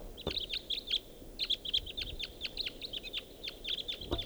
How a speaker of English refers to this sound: Looks like there are more type twos. Two more coming in. Three more. Now there's a greater number of birds all around here.